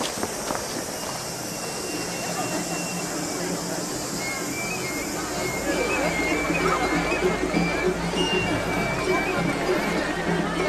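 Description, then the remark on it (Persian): Water trickles and splashes out steadily from a cracked fish bowl, a continuous wet rushing that grows a little louder about halfway through, with faint thin tones riding above it. “تنگ ماهی ترک خورده و آبش جاری شده است.”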